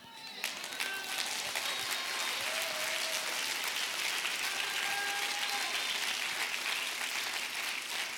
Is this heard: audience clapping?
yes